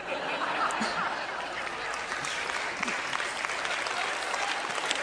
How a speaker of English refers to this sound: Now look, y'all are going to have to stop clapping or I'm going to stop singing, because it's like, he did it.